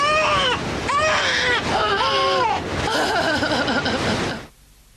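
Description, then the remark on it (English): An infant screams and cries loudly in several sustained, wavering wails with brief catches of breath between them, ending abruptly after about four and a half seconds. “Even the haunting screams of that infant sound different in this environment.”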